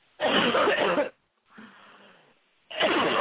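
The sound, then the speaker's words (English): A person coughs hard, two long harsh bursts separated by a softer raspy breath or wheeze, with no talking. “Just take a deep breath and cough them all out.”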